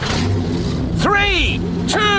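Engines rev loudly, two quick rising-and-falling surges over a constant low rumble, as teams start their vehicles' engines at the start of a timed rubbish-collecting race.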